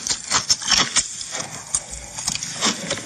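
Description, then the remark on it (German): Someone chews broccoli noisily, with repeated crunchy, wet bites in an uneven rhythm, loud, with no talking. “So, jetzt gibt's gerade Brokkoli.”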